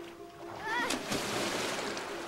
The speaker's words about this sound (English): She watches him fall into the river, arms flailing. He disappears under the water.